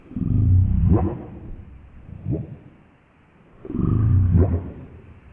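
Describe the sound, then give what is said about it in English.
Deep, burping calls from southern resident killer whales, two long low groaning bursts with a shorter grunt between, heard underwater against a quiet background. “This is sort of burping, deep sound that they make. This is the southern resident killer whales.”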